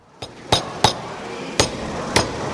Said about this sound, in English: In a carpentry workshop at the privately operated Peterborough Prison, a group of offenders are hammering, chiselling and sawing through blocks of wood.